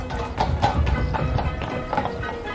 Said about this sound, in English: Here comes the landau.